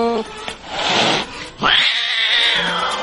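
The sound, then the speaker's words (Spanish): A cat lets out a loud, drawn-out yowl that rises sharply and then wavers for over a second, following a short burst of scratchy, noisy sound. “Se viene agosto, el mes de los gatos. ¡Gata fiera!”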